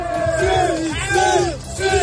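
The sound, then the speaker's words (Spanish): A crowd of Morocco football fans cheering and chanting tonight in the Puerta del Sol, Madrid, celebrating Morocco's victory. Many voices join in loud, rising and falling shouted chants with a dense hubbub underneath. “Esto es sonido de esta noche de la afición de Marruecos en la Puerta del Sol de Madrid.”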